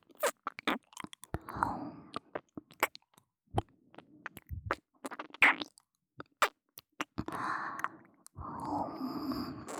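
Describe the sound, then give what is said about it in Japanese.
Close-up wet mouth sounds and licking smacks right against the microphone, with soft breathy exhales between them, in a slow irregular rhythm and no talking. “吐息、舐め、吐息、 吐息。”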